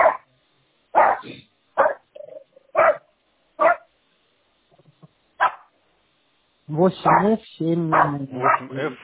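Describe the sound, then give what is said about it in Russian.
A dog barks sharply and loudly about six times at irregular intervals, then a person starts talking over the quieter tail end. “Все, блин, если это собака там.”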